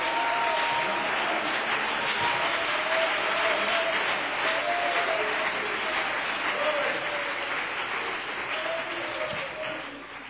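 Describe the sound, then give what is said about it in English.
A church audience claps their hands to the Lord steadily for about ten seconds, a dense, continuous wash of many hands, with a few voices calling out beneath it before the applause starts to fade at the end. “Somebody clap your hands to the Lord here today.”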